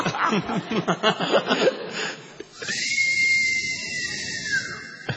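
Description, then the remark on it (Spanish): A person imitates a long, loud whistle used to call someone from outside, a steady high tone with a slight rising start held for about two seconds, coming right after a stretch of chuckling and lively talk. “Pero tiene que ser un barrio silencioso para escuchar ese silbido en la noche.”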